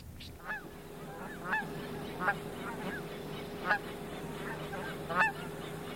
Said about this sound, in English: During the prime viewing, which is like about an hour before sunset, the cars just line along the road. Traffic is just stopped watching the geese come in. They come in from all over.